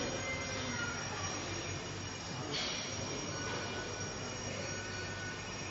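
A crowded train rumbles along loudly and steadily, with shrill metallic wheel squeals rising above the dense roar, one sharper squeal standing out midway. No one speaks.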